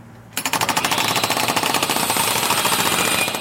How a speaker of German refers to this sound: Nun geht es mit schwerem Gerät an den Wanddurchbruch.